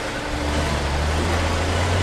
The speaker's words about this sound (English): Trailer is set down on the dock beside the ship. A truck backs up